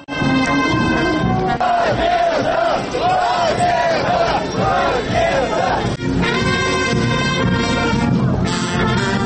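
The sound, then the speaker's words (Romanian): A large crowd at a Victory Day march of the Party of Communists led by Vladimir Voronin chants 'hurrah' and 'victory' loudly and continuously, voices rising in wavering rhythmic shouts, with a brief dip before the roaring chorus swells again. “Coloana Partidului Comuniștilor în frunte cu Vladimir Voronin a pornit de la Arcul de Triumf și a fost însoțită de o fanfară care interpreta cântece sovietice, iar mulțimea scanda ura și victorie.”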